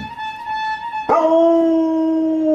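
A dog howls in long, steady, high-pitched tones, then breaks off with a sharp yelp and slides into a lower, louder howl that slowly sags in pitch. No one speaks.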